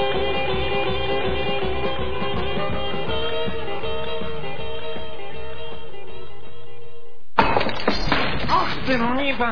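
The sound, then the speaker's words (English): Loud, continuous crashing and smashing of laboratory equipment, a jumble of breaking and clattering that runs for several seconds, cuts off briefly, then bursts back in with more splintering crashes. “All my railroads, alchemists, equipment, my work, my secrets being smashed to smithereens.”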